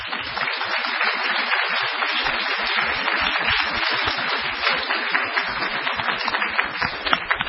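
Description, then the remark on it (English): A crowd applauds Dr. Bashan and Pastor Cook steadily, many hands clapping in a dense, continuous patter that stays fairly loud and even for several seconds, with no voices over it. “Let's give a round of applause to Dr. Bashan.”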